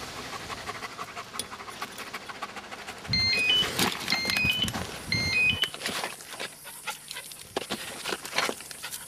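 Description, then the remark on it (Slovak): A stray dog pants in quick, rhythmic breaths that carry on steadily throughout, with a few faint high beeping tones chiming briefly in the middle. “Som sa kamarátil s množstvom túľavých psov.”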